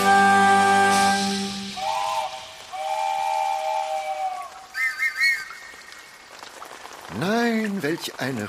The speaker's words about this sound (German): Welch ein Regen. Phänomenal.